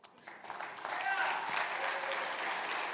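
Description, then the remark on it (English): A church audience breaks into applause for a member who stands up and waves, the clapping swelling within the first second into a dense, steady roar of many hands that holds evenly to the end. “All y'all clapping don't have any clue what I'm getting ready to say.”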